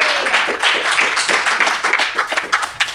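An audience applauds steadily, a dense, crackling wash of many hands clapping at once that stays fairly loud and even throughout, with no voices over it.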